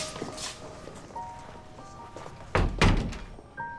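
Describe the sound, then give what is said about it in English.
An office door swings shut with a solid thud and a quick second knock as it latches, against a faint steady hum. “Chandler shuts his office door after Miles.”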